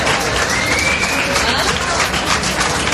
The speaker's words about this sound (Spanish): Aplausos en la Terminal 4 de Barajas ante la llegada de la onubense.